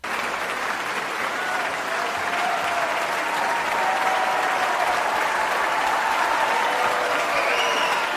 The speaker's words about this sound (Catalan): Va després d'uns quants aplaudiments d'un públic enfervorit per escoltar Juan Diego Flores, el tenor peruà que fa una versió sensacional aquí en uns visos d'un concert memorable.